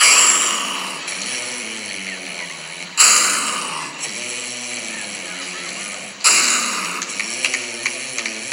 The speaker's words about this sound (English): He snores. Start off sort of like a pig digging for roots. Didn't stop there. It went on to the the sound of a freight train hitting a bridge at about 90 miles an hour.